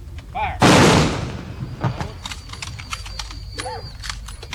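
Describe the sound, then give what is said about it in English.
A military rifle volley fired by the Brit American Legion as a military send-off at a hobo funeral for World War II veteran Lord Open Road rings out as one loud, sharp crack that rolls off over a second, followed by a much fainter report, with brief voices heard around it. “Lord Open Road was a World War II veteran, so the Brit American Legion gives him a proper military send-off.”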